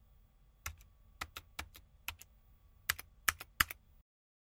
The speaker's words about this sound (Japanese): 手元のキーボードを叩いた。